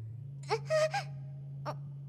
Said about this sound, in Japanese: すいません、咳が…失礼しました。